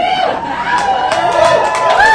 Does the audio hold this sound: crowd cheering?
yes